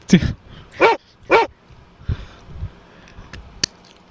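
A dog barks loudly three times in quick succession, followed by quieter scattered noises and a short sharp click near the end.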